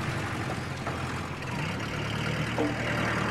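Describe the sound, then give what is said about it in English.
A truck approaching on a highway a short distance from a house rumbles steadily at moderate volume, a broad, continuous drone with a low hum that grows slightly louder toward the end, with no voices. “He turns to see a truck approaching on the highway a short distance from the house.”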